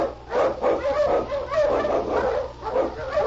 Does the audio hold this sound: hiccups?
no